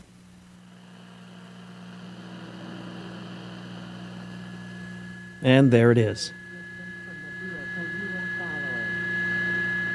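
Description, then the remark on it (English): An early 1960s Admiral vacuum tube clock radio warming up: a steady low hum and thin high whine, a man speaking briefly, then hissy radio sound slowly swelling in louder. “It took a little while for tubes to warm up and for the older style of radio to start producing sound.”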